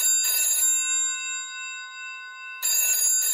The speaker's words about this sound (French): Un jour, Marcel reçoit un étrange coup de téléphone.